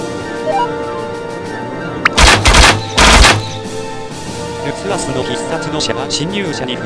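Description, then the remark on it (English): A volley of arrows shot from a bow flying toward an invader: two loud, dense bursts of rapid rushing and thudding, each lasting under a second, set against a steady background of voices and sustained tones. “And all his arrows flew towards the invader.”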